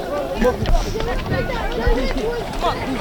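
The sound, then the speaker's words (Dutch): Quick, scattered footfalls of several people running diagonally across a street crossing, with a steady murmur of crowd voices and street bustle around them. “Dat betekent dat mensen schuin een kruising oversteken. En dat niet echt met een wandelpasje doen. Maar echt aan het rennen zijn.”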